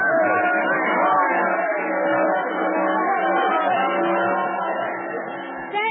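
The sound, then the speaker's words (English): A large crowd cheers and clamors at a train station as Nellie Bly's train speeds across the country from San Francisco, a dense, steady wall of many voices that stays loud for the whole stretch, with no single speaker standing out. “Cheering crowds gather at every station.”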